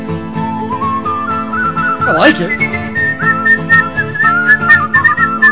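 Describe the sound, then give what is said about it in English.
A man whistles a wavering melodic tune, clear, over steady background guitar music, with a brief spoken remark cutting in partway through. “You try to whistle as good as him.”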